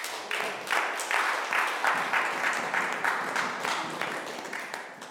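A room full of people applauds steadily, dense overlapping claps forming a continuous wash of sound that holds at an even level for several seconds.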